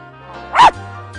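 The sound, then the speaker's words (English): A single sharp, loud bark bursts out near the middle, standing out against a steady, tonal hum that continues underneath before and after. “However, we can bark along.”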